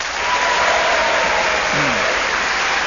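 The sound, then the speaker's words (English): An audience applauds steadily as each player's final placing in the game is announced, a dense wash of many hands clapping at full volume for the whole stretch, with a brief faint voice murmuring underneath. “Getting a round of applause for each one of them, aren't I?”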